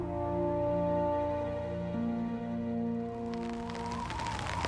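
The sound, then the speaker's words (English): Ice pellets patter down from above against a surface in winter weather outside a church in Canada, growing denser and crisper toward the end, over a steady low tonal drone. No one speaks. “Ice pellets rained down from on high, stinging her wherever they contacted exposed flesh.”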